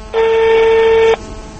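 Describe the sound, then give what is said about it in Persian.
A single steady electronic telephone tone sounds for about a second as a phone number is dialed, loud, then cuts off abruptly, leaving faint background hiss. No one speaks. “من از تلفن من بیاد استفاده کنیم رقمش هم میچینیم.”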